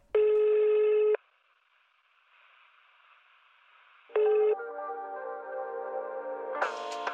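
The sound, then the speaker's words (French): A telephone ring tone sounds two times, a long steady burst followed by a short one, with a faint hissy line in between and then a connected phone line tone carrying on, as a call to Bezotel is put through. “Ne quittez pas, nous allons prendre votre appel.”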